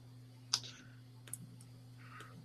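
A few sparse, sharp key clicks from someone typing on a computer keyboard while on the UPS.com website, spaced irregularly over a steady low electrical hum, with no one speaking.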